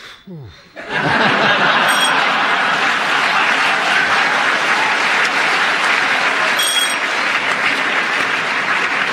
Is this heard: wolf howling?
no